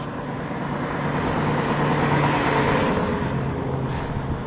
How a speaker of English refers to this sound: There's snow on the ground and the setting sun's light is just right. Standing in a ditch across the street to get the right angle and waiting for the cars to go by,